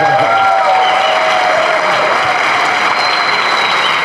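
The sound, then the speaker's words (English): Steady, loud applause from an audience fills the whole stretch, a dense crackle of many hands clapping continuously, with a faint murmur of voices underneath. “Come on, applause.”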